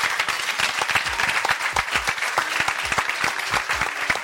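An audience applauds loudly, a steady dense wash of many hands clapping with sharp individual claps standing out, sustained without a pause and no voices on top.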